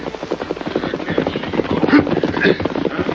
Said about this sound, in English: Their leader, a man named Varley, waited as a horse and rider galloped in from the east.